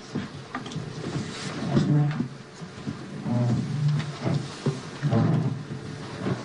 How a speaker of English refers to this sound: It's the moving of some chairs.